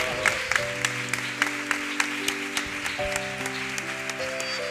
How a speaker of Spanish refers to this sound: Un aplauso para ti.